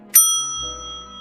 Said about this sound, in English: Go in. Ring a bell.